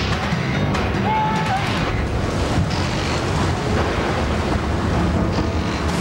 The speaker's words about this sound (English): Plane forced to ditch in the Sea of Cortez has left four men fighting for their lives. As wave after wave rolls over them, they struggle for air.